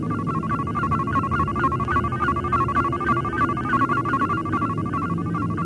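An electronic beep tone, signalling playback of a recording from memory, holds steady at a mid-high pitch, pulsing in a quick regular flutter for several seconds over a low rumbling hum, with no voices.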